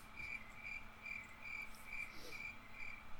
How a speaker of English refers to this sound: Those crickets every single time.